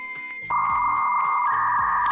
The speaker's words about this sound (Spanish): ¿Te acuerdas del antiguo módem para conectarte a internet donde se podía mantener alguna conversación, aunque fuera lenta?